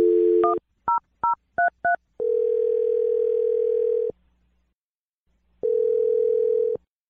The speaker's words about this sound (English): Dial the phone number right now. Here we go.